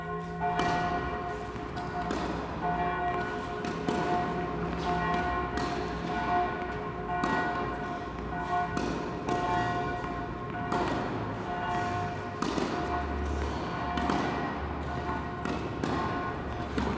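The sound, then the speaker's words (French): A church bell tolls for a funeral in a steady series of strikes, each ringing out and lingering so the tones overlap into a continuous humming resonance, with no voices present. “Cloche de l'église pour un enterrement.”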